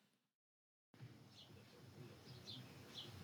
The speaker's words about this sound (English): Like, you unmuted for a second, and I just hear birds chirping.